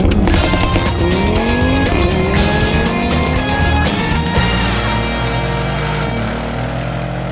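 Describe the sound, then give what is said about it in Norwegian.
A V8 engine roars loudly, its pitch climbing as it accelerates hard along a motorway, then settling into a steady, heavy drone with no voices. “Jeg vet ikke om det lov å si opppissa, men å høre den V8-motoren bare banka gårde på motorveien.”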